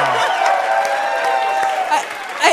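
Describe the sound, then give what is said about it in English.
A show's audience applauds and cheers steadily throughout after a game, dense clapping mixed with whoops and excited voices, with a brief louder burst of shouting near the end. “I've never gotten so much applause for doing so little.”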